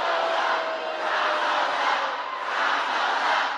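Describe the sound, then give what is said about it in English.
A large rally crowd roars and chants the name Kamala in unison, the massed voices swelling and easing in a steady rhythm, loud and continuous with no single voice standing out. “Now, her crowd's shouting her name in this cult worship,”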